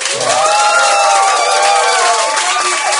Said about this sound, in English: Can we hear some applause from our audience?